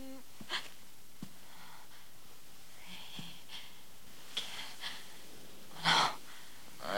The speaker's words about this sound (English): He follows the sounds of the heavy breathing